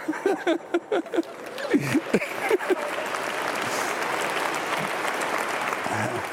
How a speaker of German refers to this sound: Ja, und nicht nur Bischof Osterlacht, sondern auch die Ministranten und alle anderen, die am Altar stehen. Und die Gemeinde sowieso. Der Applaus, der war ihm sicher.